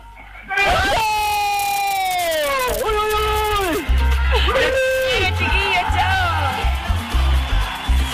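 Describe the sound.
A group of people shouts a loud, sustained cheer together, voices rising and falling in long drawn-out yells, with a brief dip before the crowd surges again, energetic.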